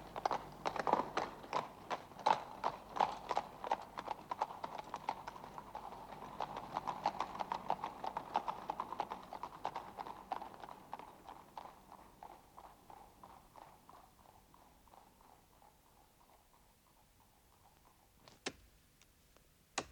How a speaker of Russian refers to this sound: Отъезжают экипажи.